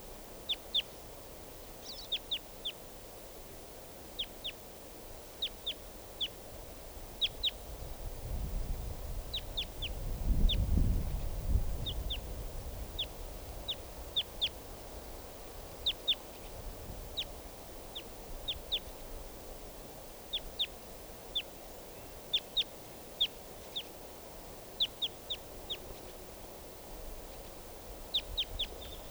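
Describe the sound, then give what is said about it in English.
A lone wild bird, called a type 2 bird, calls again and again with short, high chirping notes in irregular bursts across the whole stretch, over a steady low hiss and a brief low rumble midway. No one speaks. “Wild bird.”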